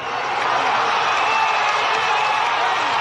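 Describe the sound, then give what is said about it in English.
A large crowd cheers and claps continuously for Venezuelan opposition leader Juan Guaido as he declares himself the country's interim president, a dense wash of voices and applause at a steady, loud level throughout without letup. “Speaking to cheering crowds yesterday, Guaido declared himself the country's interim president.”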